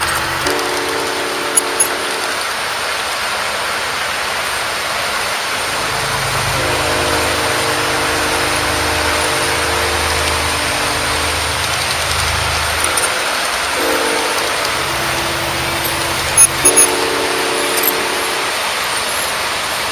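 Loud electric Lionel model trains run steadily along the track, the motor whine rising and shifting in pitch over a constant rattling hiss, with a few sharp clicks near the end.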